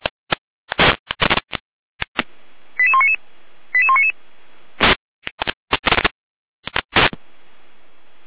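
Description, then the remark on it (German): Fire brigade radio alerting tones from the Jena control centre, with a test call for Florian Saalfeld, Rudolstadt, and an alert for Gera: two short sequences of rising and falling beeps, set between loud crackling clicks and squelch bursts of static. “Gera mit Alarmierung.”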